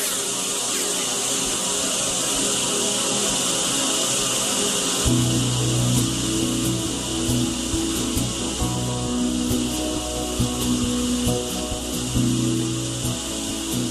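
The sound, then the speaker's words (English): Sustained, organ-like chords from a multitrack recording, made by playing mixing console faders like a keyboard with one note per fader, swell over a steady bright hiss; around midway, deeper low tones enter and the chords shift in slow, overlapping steps. “this sound that does sound like you're entering a cathedral, some hallowed space.”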